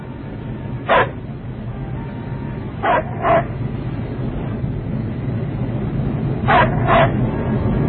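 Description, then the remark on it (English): A dog barks five times in short bursts, one single bark then two quick pairs, over a steady low rumbling background with no voices. “Charlie, what is he barking at?”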